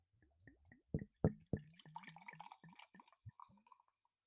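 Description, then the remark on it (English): Topo Chico sparkling water glugs out of a 750 milliliter glass bottle in a quick, irregular series of hollow gurgles and splashy drips, with a light fizzy hiss above. No one speaks. “It's our classic Topo Chico in the glass bottle, 750 milliliters.”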